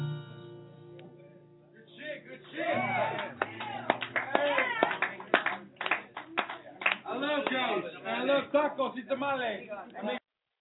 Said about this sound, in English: As you could tell from the applause at the end of that track, sometimes you have to blame the audio on the recorder, not the one being recorded.